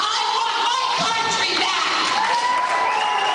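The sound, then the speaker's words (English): A dense crowd at a town hall meeting roars and cheers continuously, with overlapping shouts and whoops blending into a loud, sustained wall of excited noise from start to finish. “Well, the crowd's gone absolutely wild over this claim.”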